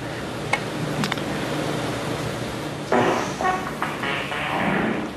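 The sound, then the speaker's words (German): During a billiards final in a vast arena, an audience member makes a raspy, buzzing fart noise that bursts out over a steady background hum about halfway through, trailing off into a second, shorter sputter. No one speaks. “Jemand im Publikum hat mit Furzgeräusch der Final gestört.”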